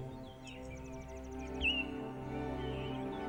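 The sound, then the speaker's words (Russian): Faint birdsong in a field on a warm, breezy day: a quick run of high chirps, then a brief bright whistle, drifting over a steady, soft, low musical drone. No one speaks. “Поют птицы.”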